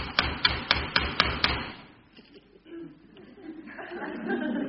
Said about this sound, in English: Must be important for him to keep on knocking like that. Yeah, must be. I mean, I wouldn't keep on knocking like that if nobody answered.